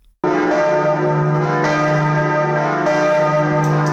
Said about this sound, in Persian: صدای ناقوس‌های کلیسای نوتردام پاریس که پس از گذشت بیش از 5 سال بار دیگر در مرکز پایتخت فرانسه تنین انداز شده است. این ناقوس‌ها همگی جدید هستند و یکی از آنها در بازی‌های المپیک پاریس در استادیوم این شهر به نمایش گذاشته شده بود.